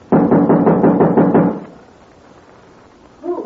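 A quick, loud burst of about eight knocks on the door of the girls' room in steady rapid rhythm, followed by a quiet pause before a voice briefly begins to speak.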